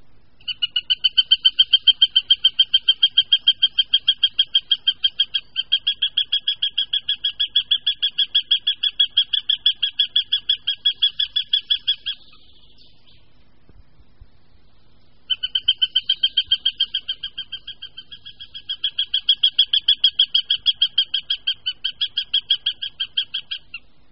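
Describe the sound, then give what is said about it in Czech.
A male northern goshawk's alarm call near its nest with small chicks: a loud, rapid, harsh cackle of repeated notes in two long bursts separated by a brief pause, with no talking. “Poslechněme si proto varovný hlas samce u hnízda s malými mláďaty.”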